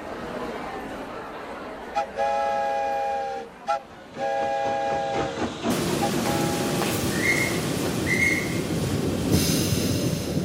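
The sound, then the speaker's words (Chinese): The whistle of the steam train carrying Abraham Lincoln's coffin sounds in two long, steady blasts, then a loud, continuous rumble of the train rolling slowly along the rails fills the rest, with a faint high squeal or two. “四年过后，运送林肯灵柩的火车又在沿途同样的城市停下来，包括巴尔的摩、费城、纽约、克利夫兰、印第安纳波利斯和芝加哥。”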